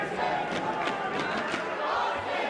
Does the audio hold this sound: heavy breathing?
no